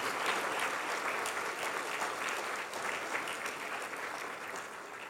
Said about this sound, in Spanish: Y eso merece un aplauso al Señor. Gracias, Señor. Pónganse de pie. Pero sigan aplaudiendo. Gracias, Señor.